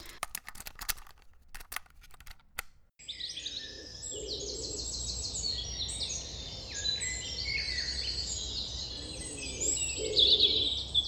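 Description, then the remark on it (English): After a few seconds of clicking, low wood pigeon coos surface now and then beneath a dense, busy dawn chorus of chirping songbirds, with no talking. “So we have wood pigeons...”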